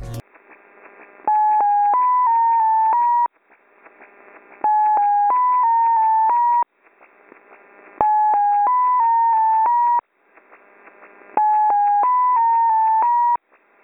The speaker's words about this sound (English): That's XO6, and as you can hear from what you've just heard, it is a series of six tones, usually broadcast in upper sideband, though we have seen it in AM very often.